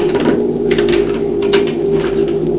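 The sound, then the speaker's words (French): A big key works the door lock of a very dilapidated house with closed wooden shutters: a handful of rattling metallic clicks and clunks come in irregular bursts over a steady low hum, with no voices. “Elle ouvre la porte avec une grosse clé.”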